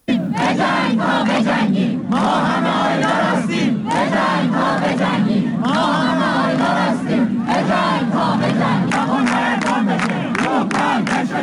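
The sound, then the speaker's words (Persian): A large crowd of students chants in unison at a protest gathering at Tabriz University of Medical Sciences, Iran, loud rhythmic shouted phrases repeating steadily with brief pauses between them, voices massed together and sustained throughout. “در دانشگاه علوم پزشکی تبریز هم دانشجویان تجمع کردند و از آیلار حقی، دانشجوی سال چهارم پزشکی دانشگاه آزاد تبریز که 25 آبان با شلیک مستقیم ماموران جمهوری اسلامی جان باخت یاد کردند.”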